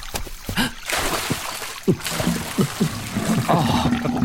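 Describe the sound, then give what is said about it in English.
Gently trickling, bubbling spring water runs steadily, with a soft continuous burble and occasional small splashes; faint murmuring voices sit underneath. “A gentle bubbling spring.”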